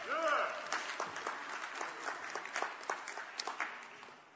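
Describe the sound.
An audience claps together in a steady, sustained burst of applause lasting several seconds, with dense overlapping hand claps at moderate volume, briefly layered over a voice at the start.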